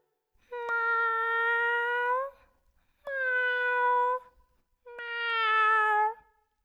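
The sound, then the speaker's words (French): A small cat meows three times in a row, each call long and drawn-out with a steady tone, fairly loud with short pauses between them. “Il y a un petit chat qui fait bien.”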